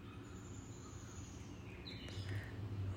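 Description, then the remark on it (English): Faint birdsong from many birds drifts outdoors, with high thin whistles and a few brief chirps over a steady low rumble of background noise. No one speaks. “Listen to all these birds.”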